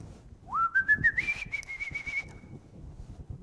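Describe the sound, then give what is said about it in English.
A bright whistled phrase swoops upward through a few quick stepped notes, then holds one steady high note before fading, with a faint low rumble underneath and no talking. “Is the song that you're enjoying in your hymnal about whistling as you walk through the world?”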